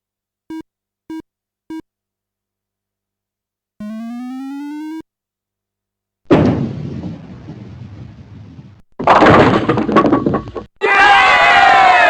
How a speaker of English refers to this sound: Yeah! You got a strike. The ball hit in the groove for a total of 10 pins knocked down in the frame.